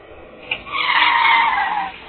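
Car tires skid and screech in one sustained, shrill squeal lasting just over a second, loud and steady before fading out, preceded by a brief sharp click, with no voices.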